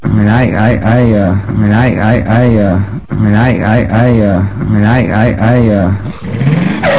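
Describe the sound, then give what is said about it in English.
A voice imitates George W. Bush's car engine struggling to start, a loud sputtering crank repeated in rhythmic bursts for several seconds, ending with a rising whine. “what does it sound like when Bush tries to start his car?”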